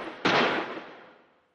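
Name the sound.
gunshots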